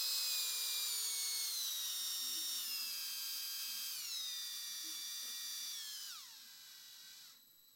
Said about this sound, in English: And as I'm drilling and trying to wrap it up, and I had this tiny little drill bit, and I'm trying to make sure that I don't, you know, mess things up. And as I'm going, here's what happened.